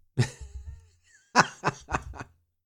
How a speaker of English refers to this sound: I don't know, but I think I'm coughing up a lung.